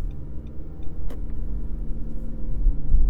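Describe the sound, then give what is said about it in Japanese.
A car approaching on a snowy road at a turn onto Route 276, hidden behind a snowbank; its engine rumbles steadily, the low drone gradually building in loudness, with a brief faint click partway through. “ああ、来てるね、車ね。”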